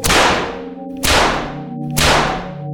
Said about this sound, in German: Wütend schlug der Krebs seine Scheren auf den Boden.